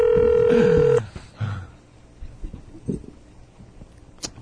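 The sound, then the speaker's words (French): A loud, steady ringback tone on a phone line lasts about a second and then cuts off, leaving faint clicks and rustling from the line afterward. “Bah tiens, on va l'appeler, on va voir ce qu'il en pense.”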